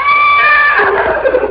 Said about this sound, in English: Shut up, horse.